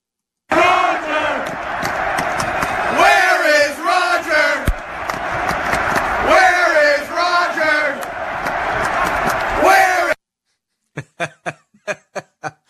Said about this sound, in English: It's the New England Patriots crowd at Gillette Stadium wondering where is Roger Goodell in the wake of the Patriots 36-17 drubbing of the Pittsburgh Steelers in the AFC Championship game that allows the Patriots to advance to Super Bowl 51